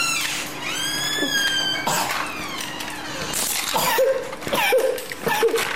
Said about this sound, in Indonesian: Batuknya.